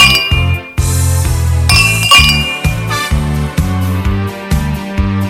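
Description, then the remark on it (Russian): Bright, ringing church bell tones chime over a steady, pulsing bass-heavy beat, with loud rhythmic low thumps repeating throughout and no voices. “Колокола звенят.”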